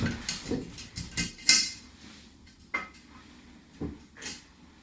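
Paper slips with questions written on them rustle and clink as someone mixes them inside an opened glass jar to draw one, with irregular sharp taps, one louder burst early on, then sparser, quieter rattles.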